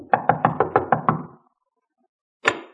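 Seven quick, evenly spaced knocks rap on a door, fairly loud and hollow. A second of silence follows, then one final knock.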